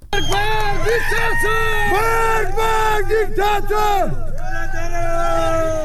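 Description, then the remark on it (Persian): A crowd of protesters in Sanandaj chants in unison in the street during a demonstration where fires were lit along the route, loud voices rising and falling in repeated shouted phrases with steady rhythm, backed by a constant murmur of many people. “گروهایی از مردم معترض در سنندج با برافروختن آتش در مسیر تظاهرات کردند.”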